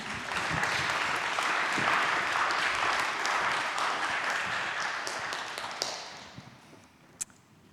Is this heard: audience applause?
yes